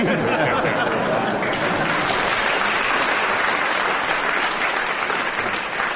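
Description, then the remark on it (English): A large audience applauds steadily, a dense, loud wash of clapping that holds for several seconds with a faint murmur of voices mixed in, then eases slightly at the end. “People generally burst out into applause round about.”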